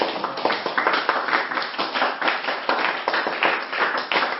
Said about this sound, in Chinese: 我们拍手吧，荣耀归主。